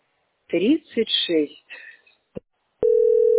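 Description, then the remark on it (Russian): A voice speaks briefly, then after a click a steady, mid-pitched telephone beep starts and holds loudly to the end, heard while waiting on hold on a call to the company Teploenergosbyt SPB, at queue position 36. “Долго будете вы мне пикать в ухо.”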